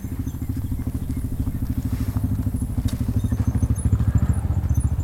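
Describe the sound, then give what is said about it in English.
The engine of a four-wheel ATV carrying a couple idles and putters with a fast, steady pulsing throb, low and rumbling, growing slightly louder toward the end as the ATV drives over. No one speaks. “A couple drives over in a four-wheel ATV to see what we're up to, just as my son is placing his well-chosen bunch of flowers onto the mud.”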